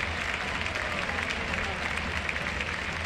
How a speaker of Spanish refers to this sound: Va a ser balón para el Real Madrid. Aplaude el Palacio con todo el mundo por el suelo. Con Roc Pavópulos, Campazo y Rudy por el suelo.